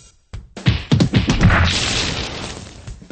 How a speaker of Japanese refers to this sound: 結構いいパンチ持ってますね、彼。